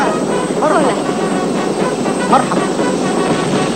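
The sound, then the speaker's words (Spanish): A loud, steady helicopter roar fills the whole stretch, a constant whooshing engine drone with no breaks, as guards roll out a red carpet to the helicopter and its passengers step out to greet those receiving them; faint voices are mixed into the background. “los guardias extienden una alfombra roja hasta el helicóptero. Salen del helicóptero y saludan a los que les reciben.”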